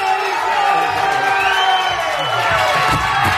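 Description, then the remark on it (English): A large crowd cheers and whoops continuously on a cold day, a loud, dense wash of overlapping voices with high shouts rising above it for the whole stretch. “A big crowd for such a cold day.”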